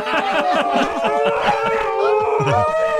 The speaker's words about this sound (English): the one that was just walking around the bedroom with his nose in the air. Just howling. It's what they do.